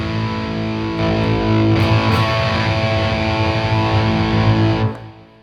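A heavily overdriven electric guitar, played through an overdrive pedal switched to its volume boost for a solo, rings out loud and saturated. It sustains a thick chord with a gritty, boosted edge for about five seconds before cutting off abruptly, with no talking.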